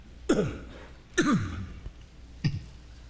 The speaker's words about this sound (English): He wore that same cologne tonight. I wasn't coughing until I got in here. I think it's devil got something to do with that drainage in my throat that just hits at the wrong time.